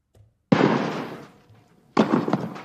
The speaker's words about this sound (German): So, das waren jetzt keine Schüsse, sondern ein symbolisiertes Tennisturnier und das ist mein neuer Jingle fürs Aktienturnier.